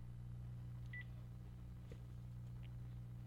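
A couple of short, quiet telephone keypad tones, one near the start and a fainter one later, over a steady low electrical hum with no talking.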